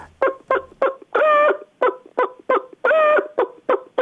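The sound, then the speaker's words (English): A person's voice mimics a hen's egg-laying cackle: quick, clipped clucks building to a long drawn-out squawk, repeated twice, fairly loud with no other talking. “Well, a hen, when she's laid an egg, she's happy. So she cockles like this.”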